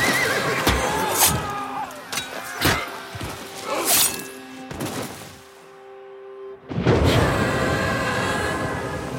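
Horses neigh and whinny as men are dragged from their horses amid a chaotic clash of sharp, percussive bursts and scuffling, followed by a brief lull and then a loud, sustained roar of commotion.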